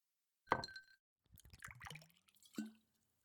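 A glass clinks sharply, followed by a short burst of liquid splashing and trickling into it, then another ringing clink as the glass is set down. Fairly quiet, with no talking.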